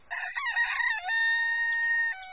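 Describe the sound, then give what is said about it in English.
A cockerel crows once, a loud call that starts with choppy rising notes and ends in a long, steady held cry lasting about two seconds, with no other sounds around it. “It was the cockerel crowing.”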